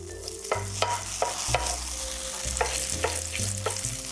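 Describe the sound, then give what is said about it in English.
Gluten-free pancake batter sizzling in hot frying oil, a steady crackling hiss broken by occasional sharp taps, with soft low music humming underneath. “I love the sound of the batter sort of sizzling in this oil.”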